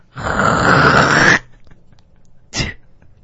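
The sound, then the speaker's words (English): A loud, raspy throat-clearing hawk rattles for over a second, followed after a short pause by a brief, sharp spitting burst. A voice performs the imitation of hawking up and spitting. “So what if you had a girl that said, I want you to just spit like a construction worker. Get, hawk it up. Make the sound.”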